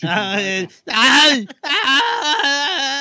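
human body sound, person crying and whimpering

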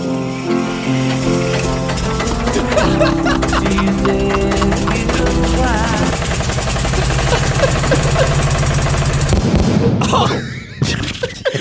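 vehicle, car engine starting

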